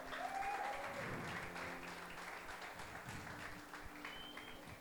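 A crowd applauds steadily, a dense wash of many hands clapping at an even level throughout, with faint voices and a few brief whistles or cheers rising above it.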